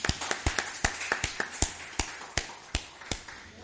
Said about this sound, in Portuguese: Podem aplaudir, pessoal.